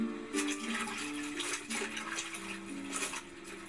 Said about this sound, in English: What's she doing? Washing her clothes in the river like the women of old.